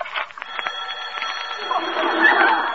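telephone bell ringing

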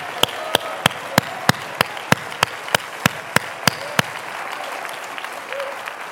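audience clapping

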